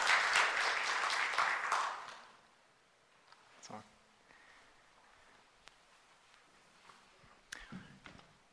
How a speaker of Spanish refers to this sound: Vamos a estar interpretando, así que quiero que le den un aplauso de bienvenida